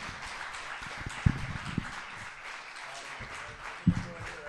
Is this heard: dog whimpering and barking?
no